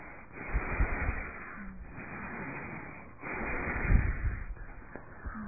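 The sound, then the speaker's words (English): Slow, deep belly breaths drawn in and pushed out, about four long airy strokes in steady alternation with brief pauses between, and no talking. “That is why I always try to remember you, the belly breathing.”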